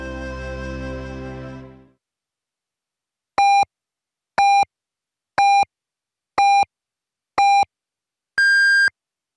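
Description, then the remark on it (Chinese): A radio time signal marking 20:00 Beijing time on China's Voice of China (中国之声) station: five short, evenly spaced electronic pips one second apart, then a sixth longer, higher-pitched tone, loud and clear after a brief stretch of fading sound and silence. “北京时间20点整。”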